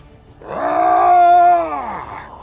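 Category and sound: animal, wolves howling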